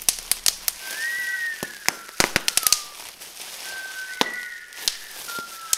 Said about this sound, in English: On the 4th of July, I wake up and I can already hear fireworks in my head.